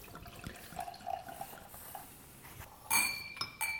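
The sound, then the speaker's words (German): Chardonnay wine (Catena Zapata Adrianna Vineyard White Stones 2014) pours steadily into a glass, then two bright, ringing clinks of wine glasses ring out near the end, fairly loud. No one speaks. “So, die Gläser sind voll.”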